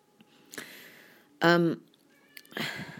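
A cat lets out a single loud meow, drawn out for a moment, meowing to be let out, between bursts of shuffling and scraping noises.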